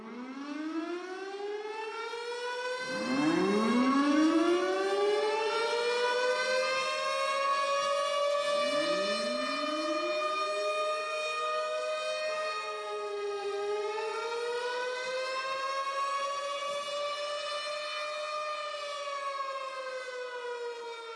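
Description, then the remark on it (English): A loud civil defense tornado siren wails steadily, its rich tone swooping up and down in long, slow rises and falls, sustained with no voices over it. “If you've never heard the sirens, watch this.”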